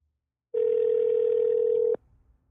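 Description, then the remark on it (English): One steady electronic ringing tone from an outgoing phone call to a friend in Florida, loud and clear, holding for about a second and a half before cutting off abruptly into near silence. “Hopefully she answers. Let's see if this works. Answer your phone.”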